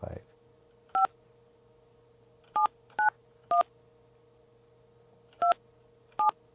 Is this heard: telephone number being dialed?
yes